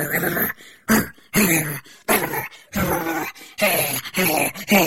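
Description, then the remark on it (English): A dog, Robo Cloco, barks and growls in a rapid series of loud bursts, with rough snarling sounds between the sharp barks and no talking. “Robo Cloco jumped between the explorers and the guards, barking and growling.”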